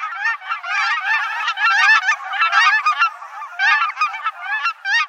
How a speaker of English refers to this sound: Let's listen one more time to the cackling geese.